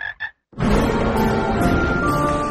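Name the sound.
toads croaking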